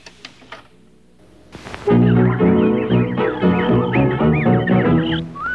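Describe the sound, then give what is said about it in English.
An old dance band record kicks in after a sparse, scratchy opening, the full band playing loud and steady while chirping, whistle-like bird imitations flutter over the tune. “Well, this may have been the record, but it was recorded by a number of other people.”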